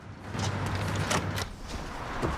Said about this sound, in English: He locks the door.